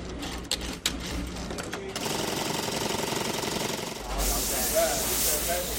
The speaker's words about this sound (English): Designer Nanette Lepore makes most of her clothes right in the Garment District. She showed us around where her dresses get stitched, the buttons put on, and the fabrics steam.